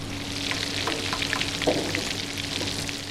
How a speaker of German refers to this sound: Schnitzel in der Pfanne und die sind für uns. Lecker!